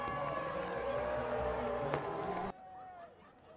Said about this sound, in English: Crowd has not had a ton so far throughout this Friday night, but they were on their feet making plenty of noise for the Rojas homer.